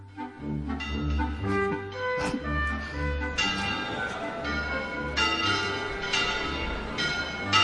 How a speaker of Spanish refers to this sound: Son las campanas de la mezquita catedral. Las campanas llamando a misa. Dos minutos de campana.